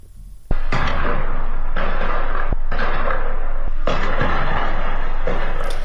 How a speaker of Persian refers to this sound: در برخی ویدیوها نیز صدای تیراندازی و انفجار در اطراف زندان شنیده شد.